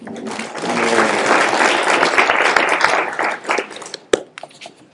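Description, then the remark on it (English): A crowd applauds steadily for several seconds, a dense wash of many hands clapping, which then thins out and fades, with a single sharp clap near the end. “Nice round of applause.”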